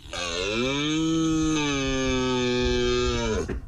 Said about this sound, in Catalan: Sí, perquè un any més el Pirineu es converteix en zona d'alt voltatge romàntic, el Tinder a camp obert de la fauna salvatge, perquè comença l'època de la brama del cérvol.